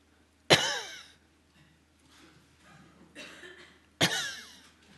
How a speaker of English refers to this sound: You think a cough is trying to get something out of the trachea in some manner or fashion. And if you can get the goo out, then things will be fine. There was no goo there. Nevertheless, you coughed.